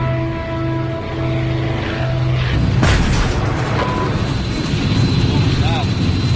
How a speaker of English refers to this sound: We landed and the airplane started all shaking and everything, and Arnie's all, we blew a tire off